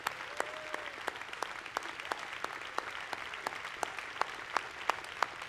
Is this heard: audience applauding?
yes